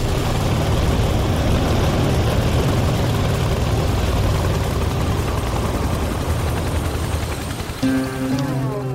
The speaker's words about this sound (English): And apparently, a flight in this thing. A smoking, flame-belching, banged-up-looking Soviet Mi-8 twin-turbine chopper whose appearance, prior to boarding, does not fill me with confidence.